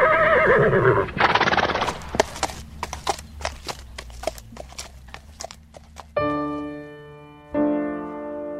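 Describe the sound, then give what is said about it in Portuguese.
A mare named Pandora neighs loudly at the start, then hooves clip-clop in a steady rhythm before two long, ringing whinnies close out the sequence. “Vambora, Pandora. Vê lá se isso é nome de égua.”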